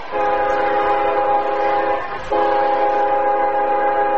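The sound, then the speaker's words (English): A loud, sustained horn of a passing CSX freight train blares in two long blasts separated by a brief break, its steady chord of tones ringing out over a low rumble, with no talking. The train rolls through Anna behind the West Press Box at Booster Field on a football night. “On football night, the CSX rolls through Anna behind the West Press Box at Booster Field.”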